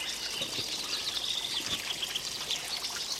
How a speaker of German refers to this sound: Und vor uns der Sauerbrunnen, der sein Wasser in ein kleines Becken sprudeln lässt und von da aus in den Kirscher Bach und überall das Rostrot des Eisens.